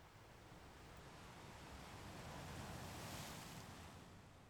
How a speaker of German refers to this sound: Vielleicht hörst du das Meer, vielleicht den Wind.